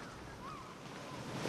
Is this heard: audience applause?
no